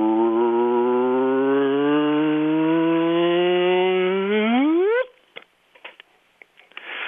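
A simulated gravity-wave signal from two black holes spiralling in toward each other: a low, buzzy rumble that slowly climbs in pitch for five seconds, then sweeps sharply upward into a whoop, marking where the two merge into one, and cuts off, leaving faint clicks.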